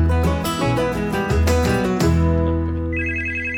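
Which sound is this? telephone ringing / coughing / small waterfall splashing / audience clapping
telephone ringing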